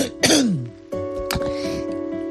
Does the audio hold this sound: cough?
yes